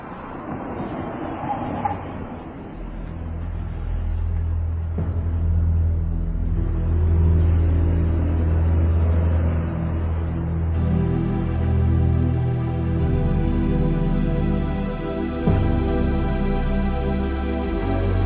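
The heavy engine of the last bus leaving for Turginovo rumbles steadily, its deep drone shifting in pitch as the vehicle drives along, with no voices present.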